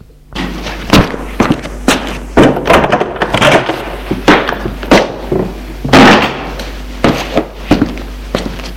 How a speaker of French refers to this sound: Il va frapper à la porte de la chambre de sa mère pour lui dire au revoir.